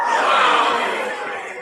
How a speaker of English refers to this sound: this is a crowd gasping sound effect. I have no idea what it's going to sound like.